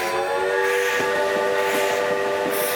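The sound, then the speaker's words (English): A railroad train rumbles by loudly, with a steady whistle-like tone sounding over the rolling clatter of the cars for the whole stretch. “But the arrival of the railroad changed everything.”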